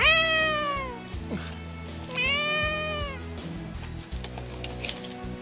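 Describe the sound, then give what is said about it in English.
An upset cat, on its first trip into the bedroom, lets out two long, drawn-out, loud yowling meows separated by a short pause, with low background noise continuing after the cries fade. “Yeah, that was an angry kitty.”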